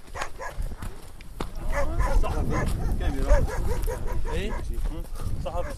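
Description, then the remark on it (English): A wild pack of several dogs barks and yips excitedly at once while chasing people on rough terrain at night in Syria, an overlapping, continuous clamor, with a whine or two mixed in and a low rumble of background noise. “A wild pack of dogs seemed to be chasing us at one point.”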